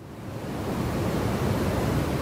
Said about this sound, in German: So hört es sich an, wenn man auf Island der Atmosphäre im großen Stil CO2 entzieht, um damit das Weltklima zu retten. Was von vorne aussieht wie ein Sammelsurium gigantischer Riesentoaster, sind in Wirklichkeit hocheffektive CO2-Luftfiltersysteme.